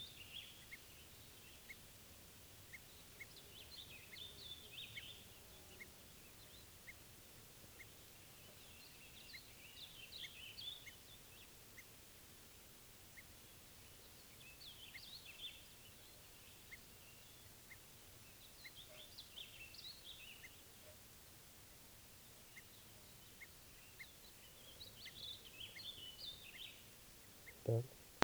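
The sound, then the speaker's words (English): Repeated alarm calls of bird 387 ring out in bursts every few seconds, echoing faintly over a soft outdoor hiss, with a sharp louder call near the end. “echoing alarm calls here for 387.”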